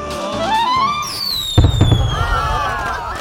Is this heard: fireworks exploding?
yes